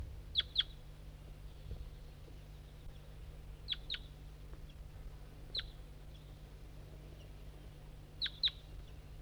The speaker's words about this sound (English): It's a recording. I don't see the wild bird and it has stopped calling.